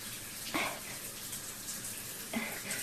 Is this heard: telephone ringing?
no